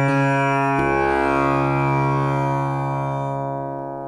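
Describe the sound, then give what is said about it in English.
A sustained drone of a tambura's long vibrating strings, thick with buzzing overtones from the bridge, holding steady pitches with a brief shift near the start, then slowly fading toward the end. No voices. “And it's, you know, it's long strings that vibrate. And the magic of the instrument, the buzzing thing, is the bridge.”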